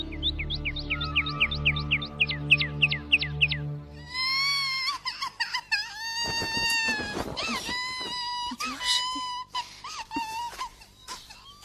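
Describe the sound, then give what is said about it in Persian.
A child cries in long, rising and falling wails that start a few seconds in and continue, loud, after a stretch of quick repeated chirping over low tones. “عزیزم چرا گریه میکنی؟”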